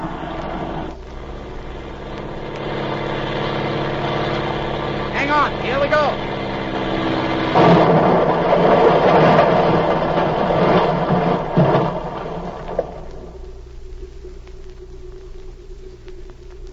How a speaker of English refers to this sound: I'm going to land and crash them.